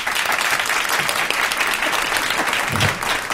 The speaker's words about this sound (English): And as they applaud each other, which you can't see on your radios,